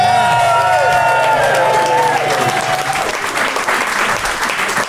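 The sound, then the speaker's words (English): A short show jingle for the quickfire round, with bright, gliding tonal lines and a low sustained note, fades out after about three seconds, giving way to loud, steady applause and crowd noise from the audience that continues to the end. “Always a good call to start wrapping up the jingle when the audience starts throwing glass, I think.”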